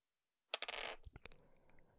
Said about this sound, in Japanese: 勉強にならないからすぐにサイコロ振っちゃうけど。